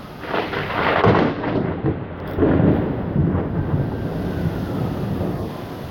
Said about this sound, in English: Here comes the rain.